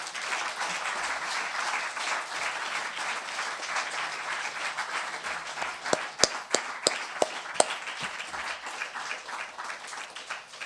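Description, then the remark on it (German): A symposium audience applauds steadily for about ten seconds, a dense wash of many hands clapping, with a few sharper, louder individual claps standing out near the end. “Also dafür jetzt mal einen ganz herzlichen Applaus.”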